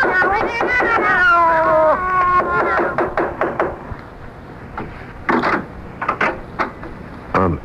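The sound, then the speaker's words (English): Several cats meow loudly and insistently at once from behind an apartment door, their cries overlapping for a few seconds, followed by scattered knocks and wooden clattering like a door or drawer. “You didn't hear the sound of cats just now?”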